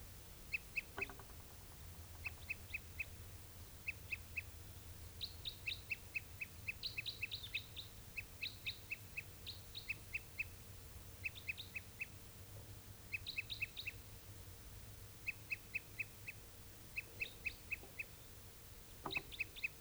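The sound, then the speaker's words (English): A tuper's song: short, high-pitched chirping notes given in quick clusters of three to five, repeating steadily over a low background hum, with no talking. “And a tuper, this is one of the tupers. I think this was also the bird that was giving song before.”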